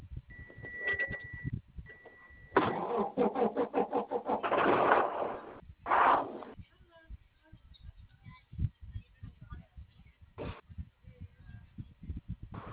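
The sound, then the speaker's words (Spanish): A steady electronic tone sounds twice, then a starter motor cranks in quick rhythmic pulses before the car engine catches with a loud roar and settles into a low, rumbling idle. “Es que me sigue, cada vez que usted da ignición, me llega apertura de puerta o bloqueo de por puertas.”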